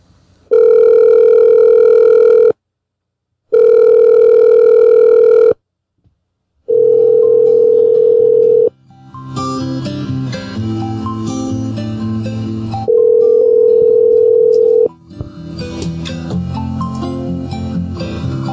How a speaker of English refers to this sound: Ringing phones.